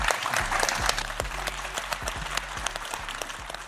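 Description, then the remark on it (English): An audience applauds steadily to welcome guest Ian Humphreys, former Ulster rugby fly half, many hands clapping in a dense, continuous patter with scattered sharper claps throughout, fairly loud, with no talking over it. “Folks, give a round of applause.”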